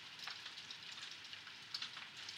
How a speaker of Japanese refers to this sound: 私も雨はそんなに好きじゃないけど、雨の音は嫌いじゃないんだよね。ちょっと矛盾してるかもしれないけど、雨の音って聞いてるとなんか落ち着くよね。